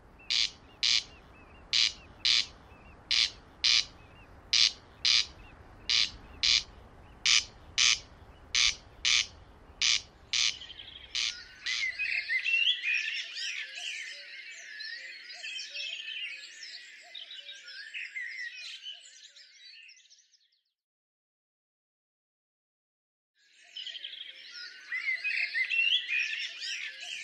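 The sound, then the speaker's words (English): A corncrake calls at night, a steady series of dry, rasping double calls, loud, followed by a stretch of scratchy, dense chattering that stops briefly, then resumes. “I hope the sleep of the corncrake is something we can all experience, and I hope you hear it as I did, special, peaceful and magical.”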